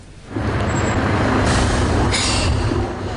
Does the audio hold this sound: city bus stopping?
yes